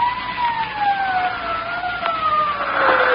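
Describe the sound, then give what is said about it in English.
A police siren wails steadily as the police arrive, its tone sliding slowly downward over a low rumble of traffic, fairly loud with no voices. “Sirens. Can't you hear them?”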